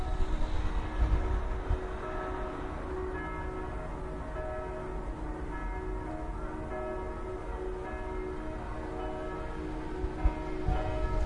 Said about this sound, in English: And I can hear more and more bells starting to ring. It's everywhere.